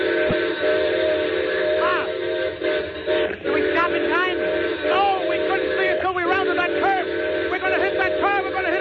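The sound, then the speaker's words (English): A train whistle blows loud in one long, continuous blast lasting several seconds, sounded because a car is stalled at a grade crossing, its steady chord-like tone with faint rising and falling wavers riding over the top. “There's a car stalled at grade crossing. I know, I see it. Well, the whistle, quick, quick.”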